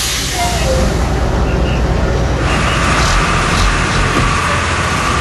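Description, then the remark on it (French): Steady, fairly loud rumble and road noise from inside a moving city bus in Venezuela, on the way to Inveval in the Los Teques area, half an hour from Caracas, continuous throughout, with muffled voices faintly mixed into the din. “Ah, il faut que je me pousse du bus.”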